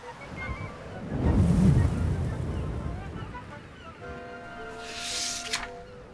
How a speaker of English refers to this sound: There was a big gust of wind.